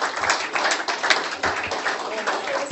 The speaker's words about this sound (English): We have a gift for our wonderful speaker. So if you could give him another round of applause.